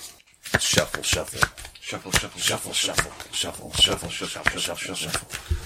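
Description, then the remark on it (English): A deck of cards being shuffled: a quick, uneven run of crisp, papery slaps and flicks that keeps going for about five seconds after a brief silence. “Shuffle.”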